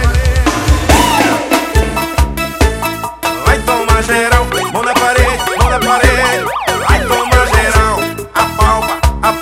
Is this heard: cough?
no